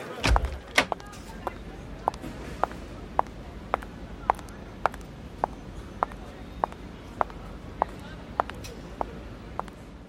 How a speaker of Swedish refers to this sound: Margarida Santos stängde dörren till kontoret bakom sig och andades ut